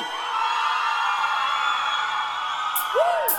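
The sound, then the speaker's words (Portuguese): A large crowd of girls screams in a sustained, high-pitched roar, with a single whoop rising and falling near the end, loud and continuous throughout. “Pras meninas, agora. Solta o gritinho!”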